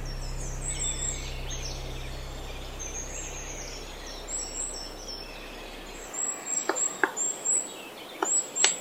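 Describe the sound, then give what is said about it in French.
A black woodpecker calls from far off, faint repeated high notes carrying through a quiet forest, with a few sharp clicks near the end and no one speaking. “De façon inattendue, au moment où la résignation commence à s'installer, un chant résonne au loin.”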